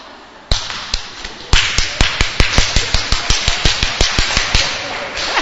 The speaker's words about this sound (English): Can you lift your right hand? Kannst du deine rechte Hand heben? Use someone else's hand and clap in it. Und dann nimmst du von jemand anderem die Hand und klatscht.